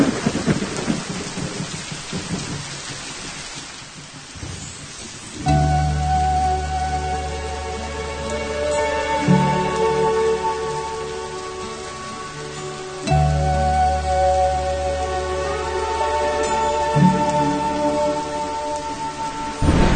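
Steady, close hiss of falling rain fills the opening seconds on its own, then sustained musical tones swell in over it while the rainfall continues underneath.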